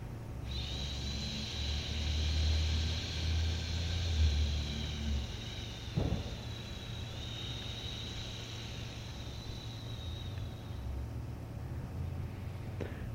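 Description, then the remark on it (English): A single long, steady hiss of breath pushed out through the teeth, lasting about ten seconds at an even strength, clear over a low background hum. “Now hiss to help it happen.”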